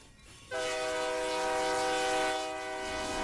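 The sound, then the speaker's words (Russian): An electric commuter train travelling from Myski to Mezhdurechensk rumbles along as a loud, sustained horn suddenly blares and holds for nearly three seconds over the steady rolling noise. No voices. “В общем, мы сейчас возвращаемся на электричке из Мысков в Междуреченск.”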